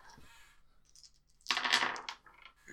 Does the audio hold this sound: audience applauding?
no